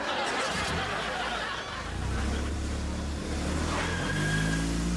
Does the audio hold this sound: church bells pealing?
no